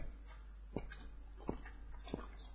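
A dog whimpers softly three times, short high whines spaced about a second apart, quiet against a low steady background hum with no one speaking.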